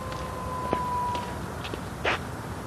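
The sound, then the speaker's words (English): A faint siren holds a steady wailing tone for about a second and a half, then fades into background hum, with a couple of brief clatters or thumps. “Sirens.”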